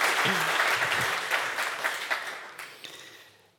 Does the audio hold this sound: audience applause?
yes